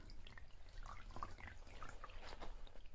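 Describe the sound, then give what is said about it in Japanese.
Wet, squishy sponge sounds as soap is worked into a lather, a steady soft churning with small drips and bubbly crackles, fairly quiet and with no voices. “さ、スポンジを借りるわ。これをこうして泡立てながらと。”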